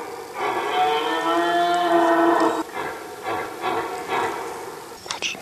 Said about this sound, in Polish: Nagle słychać z oddali przeraźliwy dźwięk. Chrapliwym chrząkaniem jelenie demonstrują siłę.